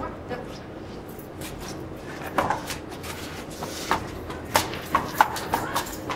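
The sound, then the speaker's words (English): Horse hooves clip-clop in a steady trot on a hard surface during a lameness exam of a horse with a right forelimb lameness, sharp hoof strikes repeating in a regular rhythm that grows louder as the horse nears, over faint background noise. “So the horse now is the head and neck not down with the left front hits the ground.”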